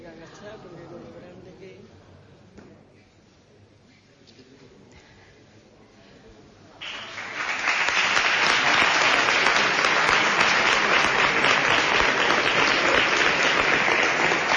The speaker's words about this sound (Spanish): Y ya ven el aplauso que ha despertado en todo el público.